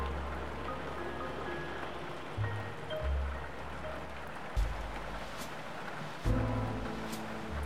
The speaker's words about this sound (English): You just wanted some shelter from the rain.